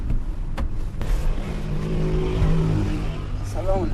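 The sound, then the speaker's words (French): A car engine rumbles steadily in Kabul, its pitch climbing as the vehicle pulls away and picks up speed, with a brief voice heard near the end. “Il nous rejoint, mon traducteur et moi, dans la voiture.”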